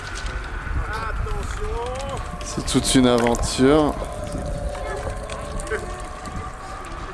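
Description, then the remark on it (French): Steady, light wind that is shifting direction blows over open water, a constant breathy rush with low rumbling buffets, while a person speaks briefly partway through. “Il y a un peu de vent.”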